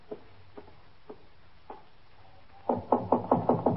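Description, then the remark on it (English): A few soft, widely spaced knocks on a door, then a quick, louder run of about six raps near the end, with no voices. “Just knock on the door.”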